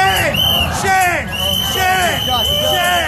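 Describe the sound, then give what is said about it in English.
Protesters outside a newly opened American food chain store at Yonge and Bloor in Canada shout and chant "Shame!" at customers buying food. Loud, overlapping voices and strained cries rise and fall in steady bursts over a constant hubbub. “shaming customers purchasing food from the new store”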